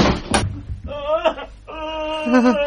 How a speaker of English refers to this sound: Somebody fell in the door. It's a girl. She's been stabbed.